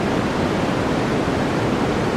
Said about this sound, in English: I did a little research, and I found out the top three things that people listen to go to sleep at night. Okay. Number one is white noise.